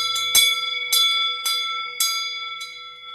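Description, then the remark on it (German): A newly cast, self-made bell from a bell foundry in Berau rings out five times at a steady, unhurried pace, each clear strike leaving a bright, sustained tone humming underneath. It sounds loud, with no voices. “Ob auch meine selber gemachte Glocke am Schluss so schön geläutet hat, das gehört ihr in dieser Woche in unserer Erlebnisserie über die Glockengießerei Berger im Berau.”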